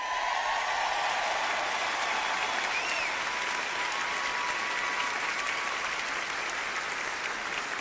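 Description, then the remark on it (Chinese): An audience applauds and cheers, with dense, steady clapping sustained at an even level for the whole clip and faint raised voices mixed into the noise. “你们愿意为此而欢呼吗？”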